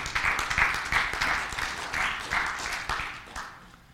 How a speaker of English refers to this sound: Yeah, clap your hands. Give the Lord praise.